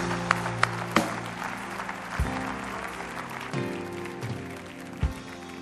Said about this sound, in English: But I think we ought to give honor to honors due, and let's just welcome them with a great big clap.